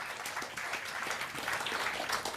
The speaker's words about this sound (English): Thank you. Big applause, please.